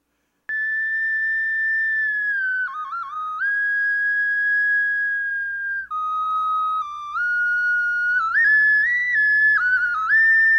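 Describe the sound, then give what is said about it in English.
A penny whistle plays a bright, steady melody of held high notes with quick ornamental flicks between them, played alone and continuously for about ten seconds at a moderate volume. “I'm going to guess... like penny whistle, a whistle.”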